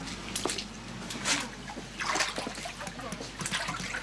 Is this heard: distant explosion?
no